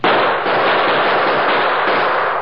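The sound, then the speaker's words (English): A loud, dense exchange of gunfire as the Lone Ranger and Tonto return fire at unknown assailants, shots crackling together into a continuous volley for a couple of seconds, muffled and lo-fi like an old recording, with no voices. “Crouched on either side of Pop Hendricks and the photographer, the Lone Ranger and Tonto returned the deadly gunfire of their unknown assailants.”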